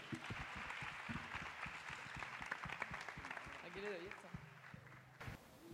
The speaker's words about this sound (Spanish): Un fuerte aplauso.